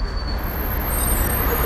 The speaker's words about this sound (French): Le bus arrive.